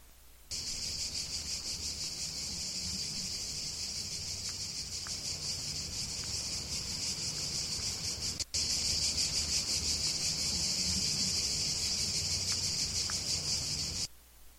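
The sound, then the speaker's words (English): Cicadas in Italy sing in a dense, shrill, unbroken drone that holds steady for about thirteen seconds, loud, with a faint low rumble underneath and no voices. “That is the cicada, the cicada.”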